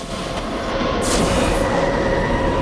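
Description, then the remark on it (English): A subway train surges through a tunnel in a loud, steady rumble, with a brief bright whoosh partway through as it rushes past. “In fast motion, traffic streams across Times Square, and a subway train surges through a tunnel.”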